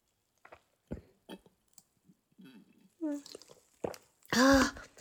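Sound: drinking a carbonated drink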